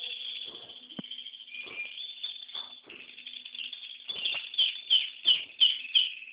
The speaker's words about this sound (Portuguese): Tem uns passarinhos aí